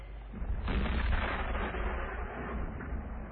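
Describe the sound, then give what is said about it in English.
A deep rumble like cannon fire or thunder, swelling after the first half second and rolling on steadily for about three seconds, with no voices. “That could be cannon fire.”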